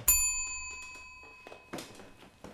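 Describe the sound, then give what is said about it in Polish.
A small service bell, rung to summon a servant, is struck once, its bright metallic tone ringing out clearly and fading slowly over about two seconds, while soft clicks and rustling movements sound. “Pan dzwonił?”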